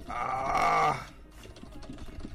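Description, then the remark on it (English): A loud, droning harmonic tone fades out after a second, followed by rapid, clattering computer keyboard clicks mashed in quick irregular bursts while playing a fighting game, moderately loud, with no talking. “The intense keyboard matching sounds resume”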